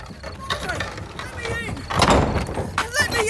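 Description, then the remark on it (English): A heavy door is closed for the night, swinging shut with a dull, broad thud partway through, while voices talk over the scene before and after the close. “Close the door”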